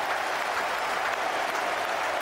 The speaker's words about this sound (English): 99 for Vaughan. He's got it away. That's well played. Listen to the roar goes up.